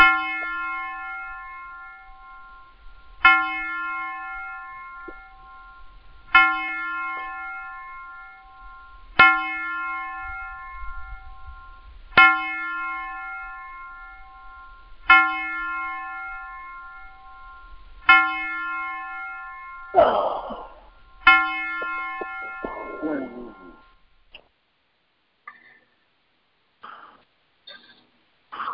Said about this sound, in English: I want to let the bells play here, so.